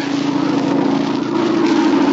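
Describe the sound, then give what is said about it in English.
An airplane engine drones overhead, flying low just above the trees, a loud, steady propeller hum with a strong low tone that holds constant throughout, with no voices. “It's a plane, all right. Must be gonna land near here. It sounded mighty low.”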